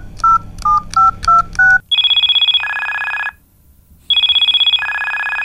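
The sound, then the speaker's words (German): Five short dialing tones beep in quick succession as a mobile phone dials the local forester's number, followed by a loud electronic phone ring that trills in two-tone bursts, pauses briefly, then rings again. No voices. “zückte sein Handy und wählte die Nummer des hiesigen Försters.”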